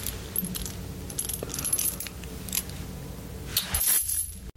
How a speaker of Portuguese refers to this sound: A corrente?